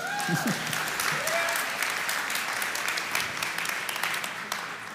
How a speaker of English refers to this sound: Yeah, we can clap.